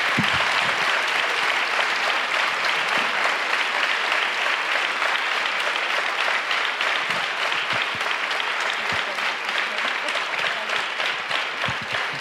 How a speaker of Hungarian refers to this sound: Köszönjük szépen, nem akarok a tapsukba beleszólni, ez tényleg jár nekik, úgyhogy köszönjük, hogy itt voltak.